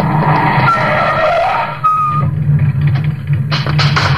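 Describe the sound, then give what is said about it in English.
A car turning the corner at the intersection of a street and an alley in a city just after nightfall: its tires skid and squeal loudly over a steady engine rumble, with a brief high screech partway through, then rough scraping bursts as the vehicle swerves. “He comes to the intersection of a street and alley just as a car turns the corner.”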